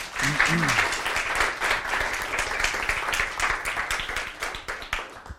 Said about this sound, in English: So let's give him a big applause.